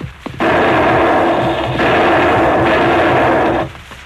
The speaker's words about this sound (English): Three shots ring out at close range.